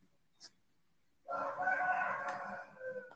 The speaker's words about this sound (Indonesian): Ada suara ayam.